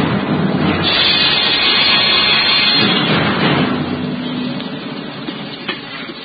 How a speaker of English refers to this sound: Aye, the storm that raged that night around the rugged battlements of the castle of Cedric reflected well the tempestuous temper of the times.